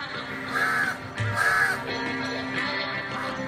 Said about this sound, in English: The main enemy today is not the soldiers, guerrillas, fighters, and suicide bombers of the LTTE, but the black crows who hover ominously over the breakfast buffet on the veranda.